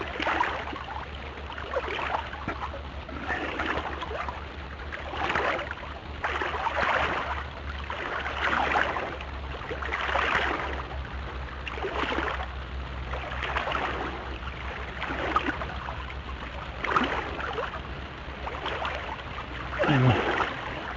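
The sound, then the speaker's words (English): Steady paddle strokes of a small boat going down a river, moving over to the sunlit right side, swish through the water about every two seconds, with gentle splashing and a faint low rumble underneath; no one speaks. “maneuvering to the right side of the river as it's in the sun more.”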